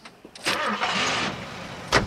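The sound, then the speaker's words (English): A car engine cranks and catches, a broad whirring roar that holds steady for about a second, then dips before a final short burst of revving. “Okay, Denise, start her up.”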